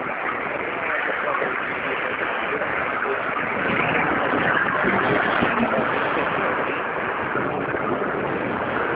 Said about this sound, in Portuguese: Desculpe, eu não ouvi. Passou um ônibus na hora. Você poderia repetir?